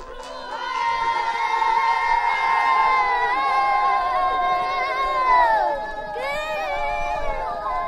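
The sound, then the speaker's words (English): A group of child riders aged 6 to 11 sings the song Gingla together while warming up their horses, an encouraging song for the horses, in high, sustained, wavering voices, a continuous chant-like song that holds steady for several seconds, then briefly dips before resuming. “It's called Gingla, and it's performed by the riders, all kids from age 6 to 11.”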